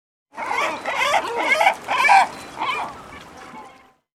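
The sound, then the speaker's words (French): A seagull calls out in a string of about six harsh, honking cries, loud and evenly spaced, with no voices or other sounds around them. “I can hear a seagull.”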